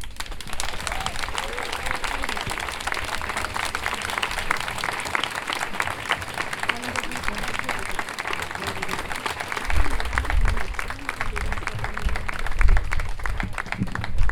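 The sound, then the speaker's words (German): Sustained applause from a crowd at a protest rally against the bombing of Iran, following a speech: a dense steady patter of many hands clapping for the full stretch, with faint murmuring voices and a few louder bumps near the end. “Vielen Dank für euren Applaus.”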